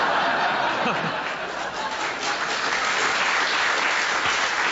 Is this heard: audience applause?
yes